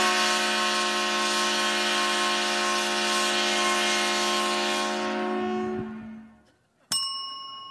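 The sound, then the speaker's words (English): A loud, sustained 130-decibel train horn blast, sounded when Purdue University's Boilermakers football team in Indiana scores a touchdown, holds steady for about six seconds, then cuts off and fades, followed by a single short bright ding. “You'll hear this 130 decibel sound every time this train-themed Big Ten team from Indiana scores a touchdown.”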